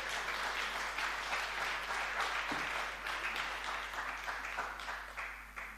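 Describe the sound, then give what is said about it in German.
Sustained applause from an audience for attendees aged 75 and older who have stood up, a dense wash of many hands clapping at once, steady and fairly loud throughout with no voices standing out. “So, erstmal ein Applaus für die...”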